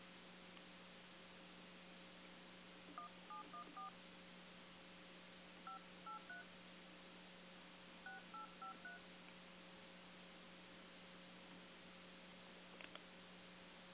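Touch-tone dialing on a cell phone to place a call: several short bursts of paired beeps in quick groups, heard over a steady low electrical hum, with no one talking.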